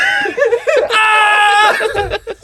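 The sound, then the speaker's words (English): A loud, close-up scream bursts out and holds for nearly a second, surrounded by shorter strained vocal cries and gasps, as if someone yelled right into the microphone. “I backed up a little bit. It was a good one. Sorry for the ear rape.”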